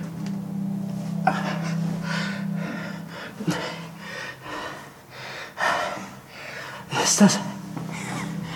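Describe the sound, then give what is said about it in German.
Heavy, deep breaths and sharp gasps for air repeat, several in a row at an uneven pace, over a steady low hum. “Ich kann ja atmen.”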